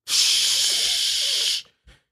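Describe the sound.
A voice imitates a urine stream hitting a toilet bowl: a steady, bright hissing "shhh" held for about one and a half seconds, then a brief, softer burst after a short pause.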